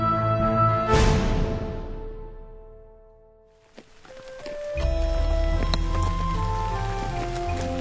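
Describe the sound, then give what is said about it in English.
Steady, soft drizzling rain patters continuously, blended with sustained musical tones; the wash of falling drops fades briefly midway, then returns fuller. “Prince Rupert rode his unicorn into the Tanglewood, peering balefully through the drizzling rain as he searched half-heartedly for the flea hiding somewhere under his breastplate.”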